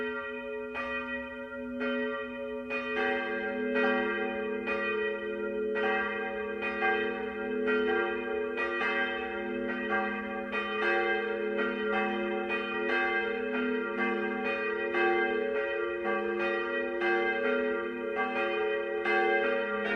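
Several large church bells of Cologne Cathedral (Kölner Dom) peal together continuously, ringing in remembrance of 600 years. Their overlapping strikes form a dense, resonant wash with a sustained deep hum and shimmering overtones, steady and full throughout with no voices.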